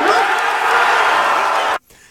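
A few people cheer and whoop loudly in a dense, steady burst of overlapping voices that lasts under two seconds, then cuts off abruptly into near quiet.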